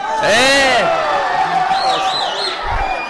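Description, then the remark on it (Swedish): A loud football stadium crowd calling for a free kick roars and whoops continuously, with rising and falling shouts and a sharp whistle-like cheer, the dense crowd noise sustained throughout. “Publiken vill ha frispark. Stämningen är lite uppresad nu här.”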